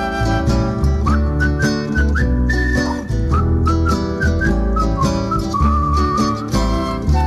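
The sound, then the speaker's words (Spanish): A bright whistled melody glides and steps through a tune, riding on top of loud, busy backing music that plays steadily throughout the whole stretch. “Puedo hablar, cantar y silbar.”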